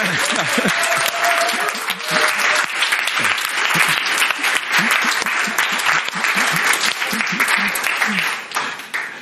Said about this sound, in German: Da gibt man einen Beifall, einen Applaus, oder? Und wenn wir sagen, Jesus ist auferstanden, dann? Ja.